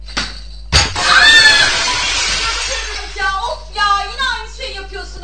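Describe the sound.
A sharp impact as a kicked ball hits a glass window, followed by a loud burst of shattering glass that sprays and tinkles for about two seconds, then voices talk and exclaim over the fading debris.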